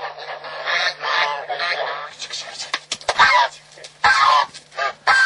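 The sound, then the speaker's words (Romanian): Farmyard poultry kept beside a house in the village of Vâlcineț, Călăraș district, call and squawk repeatedly in a busy jumble of clucks and honk-like cries, with a steady low hum running underneath throughout. “Ca orice gospodar, are pe lângă casă mai multe orătanii, fără de care zice că nu s-ar descurca.”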